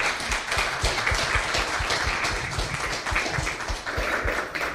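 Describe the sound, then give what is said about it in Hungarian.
An audience applauds steadily at the end of a talk in the Francesco Kávézó programme series, a dense wash of many hands clapping at once, sustained and fairly loud for the whole stretch with no voices over it. “Nagyon szépen köszönjük, egy nagy tapssal köszönjük meg.”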